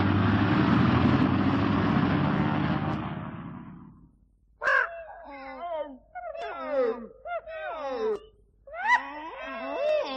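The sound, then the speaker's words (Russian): A loud, steady roar of airplane engines that have just been started rumbles for a few seconds as the plane departs, then fades away, followed by a series of harsh, cawing animal cries. “Самолет отлетает! Слышишь, уже завели моторы!”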